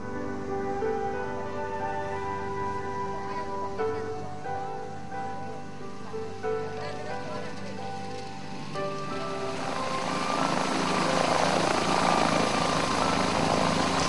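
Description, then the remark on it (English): A small propeller plane drones steadily, then a louder rough rushing rumble swells over the final few seconds as it touches down and rolls across a rough, short grass runway with wet, slick grass. “The runway was rough and short, so I would want to start at the beginning of the runway.”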